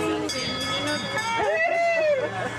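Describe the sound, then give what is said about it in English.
A small tourist train doing a circuit of the town of Westport rolls along with a steady engine rumble and wavering mechanical whine, continuous, while indistinct voices murmur in the background. “Train that does a circuit of the town.”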